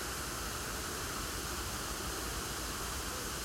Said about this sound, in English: And just a little bit further on in front of me, you may be held to hear the rushing water as it glides over the sluice gate towards the stream, taking it towards the mill.